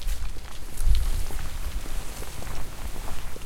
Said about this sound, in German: Das Schöne, was ich jetzt hier gerade so finde, sind, dass man hier tatsächlich die Blätter auf dem Boden hört, wenn die sich vom Wind bewegen lassen. Und hier hinten ist auch gar nicht mehr so viel Verkehr.